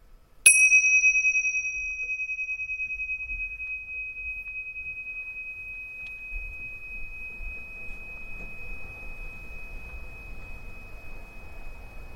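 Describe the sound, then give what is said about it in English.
A single meditation bell is struck once, ringing out with a bright, clear tone that lingers and slowly decays over many seconds, fading gradually into quiet low background noise. “This time, really track the sound of the bell.”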